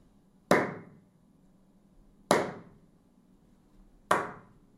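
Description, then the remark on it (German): Three sharp hand claps, evenly spaced about two seconds apart, made in an acoustic test sequence to excite and measure a room's reverberation, each followed by a lingering reverberant tail that fades out before the next clap. No voices are heard. “Ich werde jetzt dreimal in die Hände klatschen, um den Nachhall von dem Raum anzuregen.”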